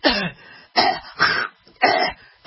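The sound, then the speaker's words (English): A person imitates the coughing and throat clearing heard down the hall of a medical office: four short, rough bursts spaced about half a second apart, with no other talk. “So rather than the cough and the slurping and the gas, I would really like to hear some music.”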